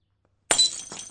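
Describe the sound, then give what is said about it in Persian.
A glass cup, accidentally knocked, shatters suddenly after a moment of silence: a sharp crash with bright ringing overtones, followed by scattered tinkling fragments settling. “الانم من بی حواس اینجوری کردم. کاش حداقل دوتاشون با هم میشکستن، این یکی تنها مون.”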